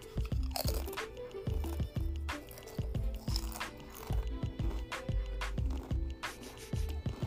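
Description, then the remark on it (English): Loud crunching of potato chips, with repeated sharp bites and steady chewing in a quick, uneven rhythm, heard alone with no talking. “Let me get to these chips again. This is a power crunch too.”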